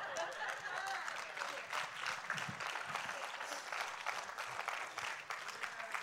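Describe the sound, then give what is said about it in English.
A crowd at a church service applauds steadily for about six seconds, a dense, even wash of many hands clapping at once with no pauses, sustained at a consistent loudness throughout. “If it ain't true, don't clap.”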